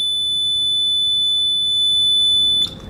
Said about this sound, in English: It'll be a loud beep sound.